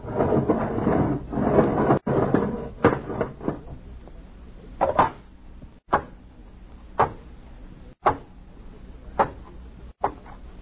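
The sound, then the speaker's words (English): A heavy bunker airlock inner door grinds and rumbles open, then settles into a run of sharp metallic clunks about a second apart, fairly loud, with no voices. “All right, open the inner door.”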